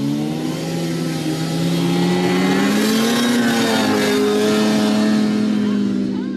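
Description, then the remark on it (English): Several snowmobiles idle and rev together at 42 Mile on the closed Haines Highway, readying for the 44th annual Alcan 200 race in excellent weather, a loud, steady drone with layered rising and falling engine tones overlapping throughout and no one speaking. “This was the sound of snow machines readying at 42 Mile for the 44th annual Alcan 200.”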